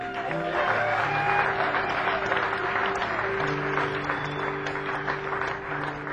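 A crowd applauds steadily for several seconds, a dense wash of clapping hands that stays loud throughout, with faint sustained tones humming underneath.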